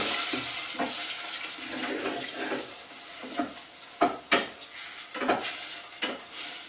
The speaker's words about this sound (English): And I'm going to put this in my frying pan and begin to fry the meat. So I'm just going to add my lamb to some hot oil. And I'm simply going to begin to fry it.